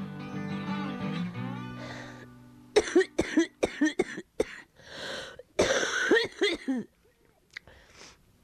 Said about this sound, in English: It's funny, sometimes I cough so hard that I can see stars.